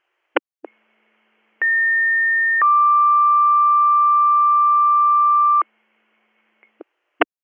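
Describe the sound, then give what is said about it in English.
A radio dispatch paging alert, a second page for Department 8 in Albany Township: a short high tone followed by a longer, lower steady tone, bracketed by brief clicks and squelch bursts from the radio, with no talking. “I'm up in the valley, so you better do a second page.”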